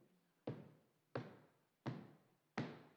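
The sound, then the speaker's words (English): Four firm knocks on a wooden door, evenly spaced about two-thirds of a second apart, each a sharp thud with a brief resonant decay, fairly loud with no voices. “and he knocks.”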